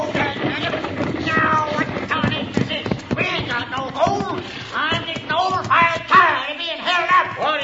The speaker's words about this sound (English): All right, driver. Hold down on those horses. Whoa!